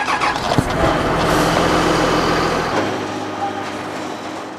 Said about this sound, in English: He starts by firing up his excavator.